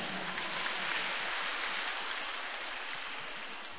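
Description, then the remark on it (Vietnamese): A group applauds one another steadily for a few seconds at a teacher's prompting, a dense, crackling wash of many hands clapping at once that holds at an even level before easing slightly at the end, with no voices. “Bây giờ dành một tràng pháo tay để tán dương lẫn nhau.”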